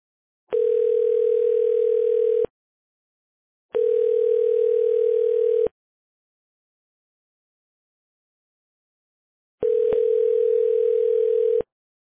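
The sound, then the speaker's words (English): Three steady, mid-pitched telephone ring tones from a test call to a call tracking number, each lasting about two seconds and separated by several seconds of silence, with a small click at the start of the last one. No one speaks. “I'm actually doing a test call to your call tracking number, and I think it's working fine already, right?”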